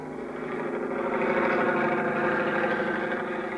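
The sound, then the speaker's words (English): A steady, throbbing helicopter engine drone runs continuously and fairly loud, a dense rumble with rhythmic pulsing, as the helicopter flies out to sea from Cape Town, South Africa, with no voices. “I don't know which was throbbing the most, the helicopter engine or my head.”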